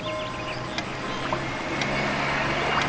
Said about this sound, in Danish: Vend nu din opmærksomhed mod trafikken. Overvåg nøje denne lyd. Ingen andre lyde er vigtige. Ret al din opmærksomhed mod denne lyd.